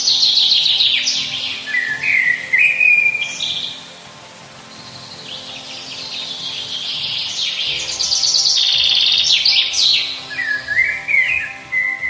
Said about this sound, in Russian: Это песня черного дрозда.